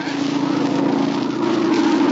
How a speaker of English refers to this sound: It's a plane, all right. Must be going to land near here. It sounded mighty low, just above the trees.